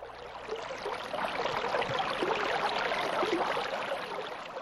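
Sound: small river flowing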